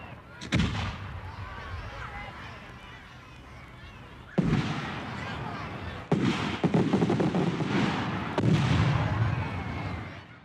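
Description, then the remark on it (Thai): New Year's Eve fireworks bursting with sharp booms at uneven intervals, each blast followed by crackling and a rumbling tail, with crowd noise underneath. “ช่วงเวลาส่งท้ายปีใกล้เข้ามาอีกแล้วนะคะการไปดูพลุส่งท้ายปีก็เป็นกิจกรรมที่หลายคนตั้งตารอ”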